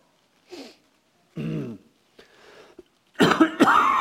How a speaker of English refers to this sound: Excuse me. I've just been blessed with this lingering cough. Guess I need to be willing to suffer.